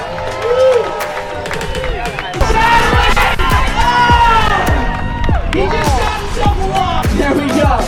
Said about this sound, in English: Applause for these guys. They made it into the Foam Wreckers final.